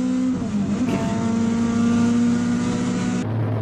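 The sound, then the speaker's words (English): Loud engine roar of race cars accelerating out of a corner, a steady high-pitched harmonic whine that climbs slightly and holds before dropping in tone at the end, with no voices. “it's how fast they're coming out of that corner first. Yeah. You know, watch them fly around that corner right.”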